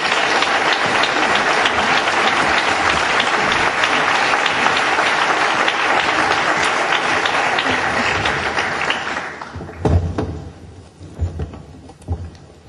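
Sustained audience applause for the candidates for mayor of Jumilla at a live broadcast special program, a dense wash of many hands clapping loudly for about nine seconds, then tapering off into scattered, fading claps and a few low thumps.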